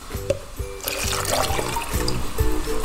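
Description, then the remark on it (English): Water trickles and splashes, starting softly and becoming a steady, fuller pour after about a second, as 250ml of water is mixed with 3 tablespoons of washing up liquid and 1 tablespoon of glycerin to make bubble mixture, with a faint low hum underneath and no voices. “So mix 3 tablespoons of washing up liquid with 250ml of water, plus 1 tablespoon of glycerin.”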